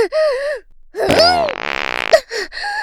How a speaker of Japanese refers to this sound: どうですか、ご主人様。こういうのが本当のおならって言うんですよ。音も臭さもご主人様のとは段違いでしょう。